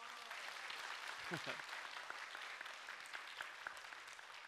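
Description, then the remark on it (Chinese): A church audience claps for God during Sunday worship, a steady, dense, crackling wash of many hands with scattered louder claps, and a brief voice or cheer rising through it near the middle. “我哋俾掌声我哋神好嘛？”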